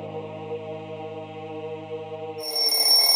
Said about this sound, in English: An alarm woke me from my dream.